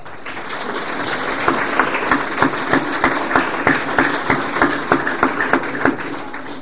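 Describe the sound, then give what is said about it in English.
Audience applause at an award presentation as recipients from schools are announced, filling the whole stretch as a steady wash of clapping. After the first second, sharper, evenly spaced claps emerge in a quick, regular rhythm. No one speaks. “I knew you'd clap between them.”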